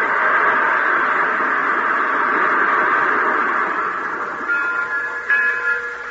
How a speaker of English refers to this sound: First train I ever saw with cobwebs on the locomotive.